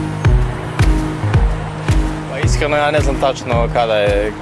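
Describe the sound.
Busy traffic on one of the most congested boulevards of Belgrade, with a steady engine rumble and a run of regular low thumps, as voices start talking over it about halfway through.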